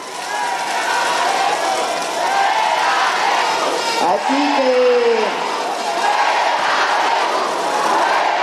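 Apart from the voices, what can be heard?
crowd shouting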